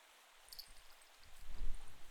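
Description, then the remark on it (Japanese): Soft, steady rain falls on a mountain, hissing continuously at a low level, with a faint low rumble swelling toward the end and a few thin high tones above. No one speaks. “雨が止まぬな。”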